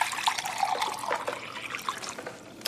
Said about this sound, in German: Seien Sie doch so freundlich und gießen mir auch einen Sherry ein, ja? Kommt sofort.